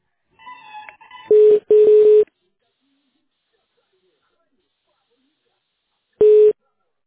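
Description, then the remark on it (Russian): A faint electronic jingle gives way to loud, steady mid-pitched telephone beeps as a call is transferred to a specialist in Saint Petersburg: two bursts close together, a long silence, then a single beep. “Я сейчас вас просто с специалистом соединю в Санкт-Петербурге.”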